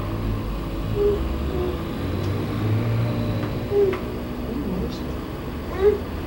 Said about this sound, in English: Bye bye to the motorcycle? Yeah, it's going, isn't it? It's going.